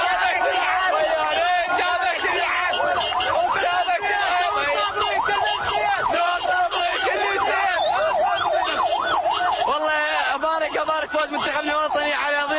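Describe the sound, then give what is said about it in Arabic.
A loud, continuous din of Iraqi football fans celebrating around a stopped car, shouting, with wailing, siren-like tones rising and falling steadily over the whole stretch and voices packed densely together. “فبعد دقائق من خروجنا وجدنا أنفسنا وسط بحر من الهياج الجماهيري، وبدل أن نبحث عن مكان لإيقاف سيارتنا أوقف المحتفلون السيارة فدار جهاز التسجيل بين أفواههم.”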